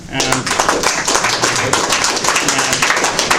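A crowd applauds steadily throughout for a speaker after a paper on Freemasonry, many hands clapping in a dense, even patter that stays loud for the whole stretch.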